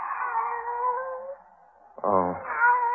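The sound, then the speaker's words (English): A cat named Kitty, Barbara's pet, meows twice, fairly loud: a long, drawn-out wail that fades away, then after a brief pause a second insistent, whiny meow. No one speaks. “It's you, Kitty. Barbara's pet.”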